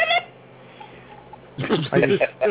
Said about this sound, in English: Infidel, phone ringing. Yes, infidel. Pick up the phone. It could be a alarm calling. Oh, pick up the phone before it blows up.